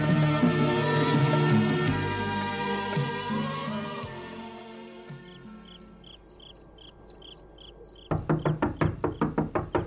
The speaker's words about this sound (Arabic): من الذي يطرق الباب في أول هذا الليل؟